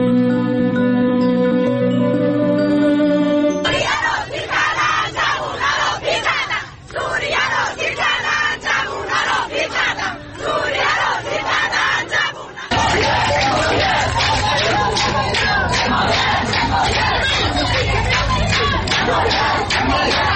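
protest crowd shouting

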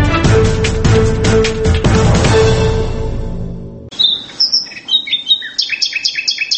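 nightingale singing

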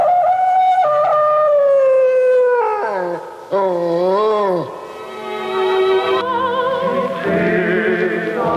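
wild dog howling

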